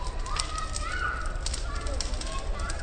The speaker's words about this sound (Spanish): Bueno, se oye el chasquido de todo lo que está ardiendo ahora mismo y yo me estoy calentando perfectamente.